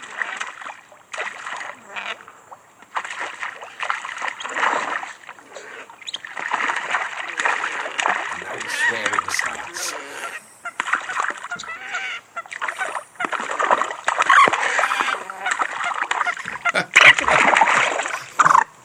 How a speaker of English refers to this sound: I hardly dared interpret for you, but the two males are sorting and fighting out all day long. Who's going to win the lady? Who's going to have the duck pond? Who's going to have the children there this year? Just listen to this.